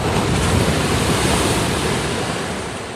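ocean waves

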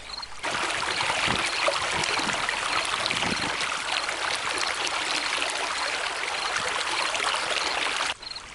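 river stream flowing

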